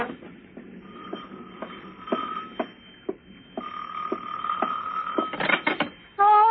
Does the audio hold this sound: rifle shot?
no